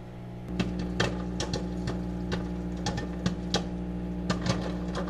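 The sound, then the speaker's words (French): A microwave oven, switched on by voice through Alexa and set for one minute, hums steadily while popcorn heats inside, with a dozen or so sharp, irregular pops and clicks breaking over the drone. No one speaks. “Donc là, il y a le popcorn qui est en train de chauffer dans le micro-ondes.”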